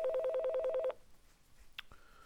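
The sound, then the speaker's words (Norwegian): A telephone ringing tone warbles rapidly for about a second, then stops; after a brief hush comes a sharp click and a steady electronic line tone, clear, with no voices, as a man places a phone call. “Han ringer.”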